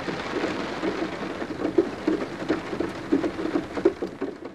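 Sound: rain falling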